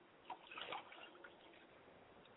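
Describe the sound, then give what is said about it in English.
Liquid is poured as a libation toward the south in a short, splashy stream that swells and then thins to a soft trickle, fairly quiet, with no voices over it. “I pour libations finally to the south and I say, Ashe.”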